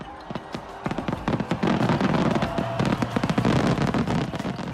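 A huge Japanese four-shaku (yonshakudama) fireworks shell, about 120 cm in diameter, bursts at the annual Nagaoka display, followed by a dense, continuous barrage of sharp cracks and pops that rolls on loudly throughout, like a wall of crackling explosions.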